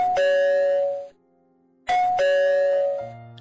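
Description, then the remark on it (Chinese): At dusk, a doorbell at a front door rings twice, each a clear two-tone ding-dong chime with a bright, ringing decay, separated by a brief pause of silence. Fairly loud, with no voices. “傍晚时分，门外传来了按铃声。”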